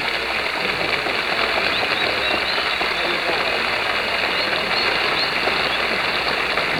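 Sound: crowd applause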